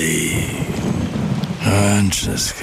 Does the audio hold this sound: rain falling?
yes